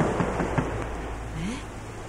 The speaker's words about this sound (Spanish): Resulta que va a caer un aguacero. Me va a llover sobre mojado. Bueno, al fin que ya estaba empapada. ¡Ay! Está fresquita la lluvia. Qué raro sentir llover con el agua hasta el cuello.